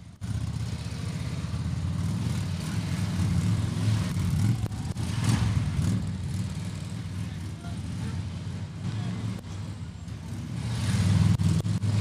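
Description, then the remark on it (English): Motorcycle engines hum and rumble continuously at low speed, rising and falling gently as the bikes ride figure eights around traffic cones, with faint voices in the background. “They're making their way around the traffic cones. They're going. They're doing the figure eights right now.”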